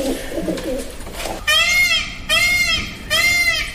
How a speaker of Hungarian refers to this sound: Páva? Így van.